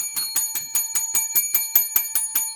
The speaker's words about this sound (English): What do you think of that? Oh, you even got a new bell.